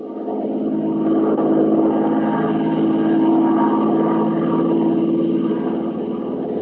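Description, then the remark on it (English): A propeller aircraft engine, the plane Arden Alice, drones steadily in flight over the South China Sea off Palawan at the end of the war, a constant low, throbbing hum with a faint buzzing edge, holding an even loudness throughout with no voices. “Suppose you start with that last flight at the end of the war.”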